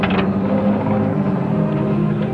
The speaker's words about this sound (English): Yeah, one of them state fish trucks, too. That's the only way to haul fish.